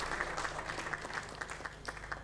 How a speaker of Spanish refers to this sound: Hacemos nuevamente un fuerte aplauso al doctor Ramírez Zambonini.